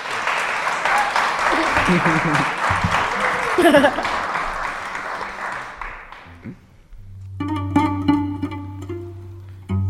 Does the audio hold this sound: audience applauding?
yes